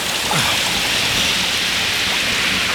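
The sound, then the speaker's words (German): A steady, loud rush of water spraying from a garden hose to put out a fire, a dense unbroken hiss that continues evenly for a few seconds with no voices over it. “Jetzt los, geben Sie mir den Gartenschlauch. Das muss gelöscht werden.”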